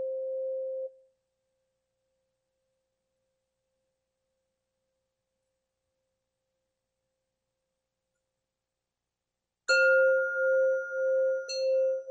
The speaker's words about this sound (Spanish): Sientan cómo el sonido de esta campana tubular va directamente hacia esa zona de la garganta donde está alojada la tiroides.